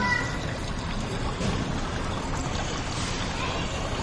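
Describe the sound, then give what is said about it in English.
Continuous aquarium-style water sounds from a computer's aquarium screen saver, played through the monitor's built-in speakers: a steady bubbling and rushing wash that stays at an even, moderate level for the whole stretch, with no one speaking over it. “you hear of the computer is on, and there's screen savers like an aquarium. It looks just like an aquarium. Okay. And it's the water. It sounds real.”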